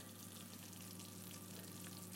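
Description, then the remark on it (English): Melted cheese on a tomato-based sauce bubbling and sizzling as it cooks, a steady soft crackle with faint popping, continuous, with no voices. “Can you hear that? That's the cheese bubbling, so that tells us that it's nice melted.”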